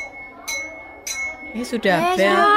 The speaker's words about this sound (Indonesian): Sudah bel. Ya, cepat kalian masuk kelas ya.